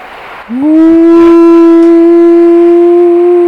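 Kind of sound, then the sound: animal, dog howling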